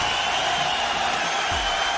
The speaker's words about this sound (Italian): fatti l'effetto tuo, un applauso, un qualcosa, lo stadio, perché il Brescia si è preso la gioia.